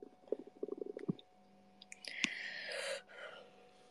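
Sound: burp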